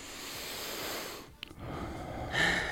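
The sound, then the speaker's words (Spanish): A deep breath: a long airy inhale, a brief pause, then a fuller, noisy exhale. No one speaks. “una frase que a mí estaba pensando en la misma, que es el respirar. Fíjate, profundamente, que no lo hacemos”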